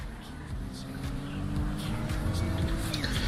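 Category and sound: vehicle, car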